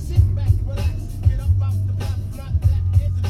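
A steady low engine rumble idles as cars sit stopped in a traffic jam, not moving, with a deep droning hum and faint mechanical pulses over a background of muffled road noise.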